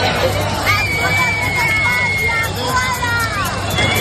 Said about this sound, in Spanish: Margarita Robles y Grande Marlaska se han llevado los abucheos y los pitos en un día en el que las Fuerzas Armadas han mostrado en Asturias todo su músculo.